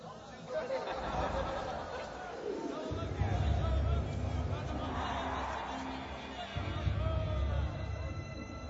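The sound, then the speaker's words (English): A dense crowd murmurs and shouts all at once, a steady wall of overlapping voices with a low rumble beneath, swelling slightly louder in bursts partway through. “I heard his final words even amongst the roar of the crowd.”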